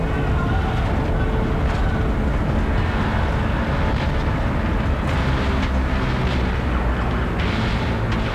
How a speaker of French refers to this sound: on vient d'entendre un extrait du film de Denis Villeneuve, Sicario, alors qu'il est truffé, on l'a entendu, hein, il y a de la grosse base, des hélicos, de l'hémoglobine dans le film, sur fond de guerre contre les cartels